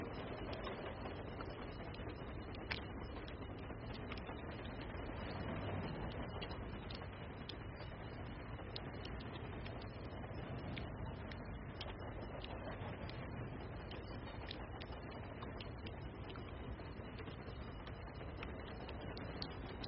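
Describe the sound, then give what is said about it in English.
A super long freight train rolls past steadily, a continuous low rumble with repeated metallic clacks of wheels over rail joints running the whole time, even in loudness, no voices. “Super long train.”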